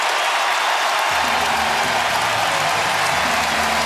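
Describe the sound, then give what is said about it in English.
A baseball stadium crowd cheers in a steady, dense roar as the Giants take the lead on a Devers hit into the gap, holding loud throughout, with a faint low hum joining in after the first second and no voices standing out. “The Giants take the lead. And listen to this crowd.”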